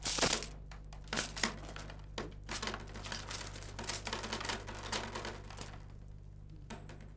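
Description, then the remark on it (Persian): Metal coins from a ruler's treasury clink and jingle repeatedly as they are handled and counted, a bright series of irregular chinks lasting several seconds with no one speaking. “عجب صدای دلانگیزی دارد این سکه ها.”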